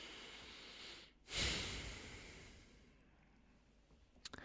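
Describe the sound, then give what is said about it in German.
A single deep breath in and out during a mindfulness exercise: an airy rush that swells quickly, then slowly fades over a couple of seconds, with no talking around it. “Und dann atmen wir einfach nochmal einmal ein und aus.”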